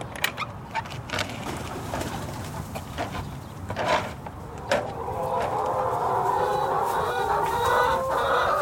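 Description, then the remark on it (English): Several chickens cluck and squawk in a coop on a working farm, with a steady murmur of hens building into a busier, continuous chatter toward the end. “We walk into one of the coops, and Kenan picks up this very pretty speckled hen.”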